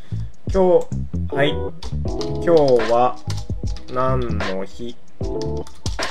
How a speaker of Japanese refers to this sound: 今日は何の日。タイピングが早い。